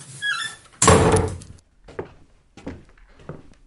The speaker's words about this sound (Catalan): La Joana va obrir una porta vella i es va endinsar en unes escales que la Carla no recordava haver vist mai.